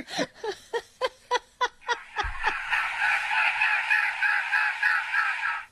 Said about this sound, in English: So, for such a beautiful bird, it makes a very weird sound.